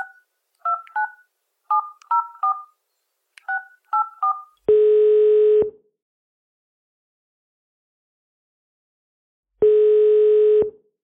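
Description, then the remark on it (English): A rapid string of telephone keypad tones beeps out a number to call an entertainer, followed by two long, steady ringing tones separated by a few seconds of silence, clear with no voices. “make the call.”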